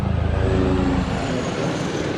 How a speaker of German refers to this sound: Im Tiefflug zieht ein Kampfhubschrauber Tiger an Ursula von der Leyen vorbei.